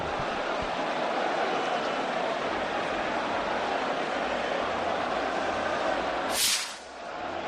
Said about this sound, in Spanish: Ya te digo, van a tirar ese último de los cohetes, que mira, vamos a escucharlo.